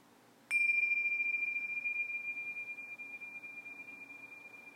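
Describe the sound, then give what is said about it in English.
A single meditation bell strike rings out during a guided meditation with a sharp onset, leaving a clear, steady high tone that sustains and slowly fades over several seconds with a gentle pulsing shimmer, with no voices. “And at the ringing of the bells, allow yourself to come back to the breath.”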